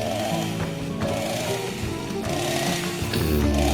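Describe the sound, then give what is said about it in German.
A chainsaw runs steadily and loudly, its engine buzzing with a rough, droning whine that rises and falls slightly without stopping, with no voices. “Barbecue. Kettensägen.”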